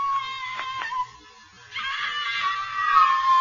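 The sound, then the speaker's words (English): Ann screams as she is carried in one paw up the Empire State Building over a silent crowd: long, shrill, sustained cries, loud and piercing, breaking briefly before rising again into a second drawn-out wail, with no other voices. “The crowds below were silent with fear. The only sound was Ann.”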